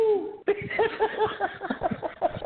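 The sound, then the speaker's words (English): A person imitates the bird noises Abraham Lincoln is said to have made in court, voicing a quick run of short, chirpy warbling sounds after a brief sliding vocal note at the start. “Abraham Lincoln, and then like when he was in the court system, he would just make like bird noises.”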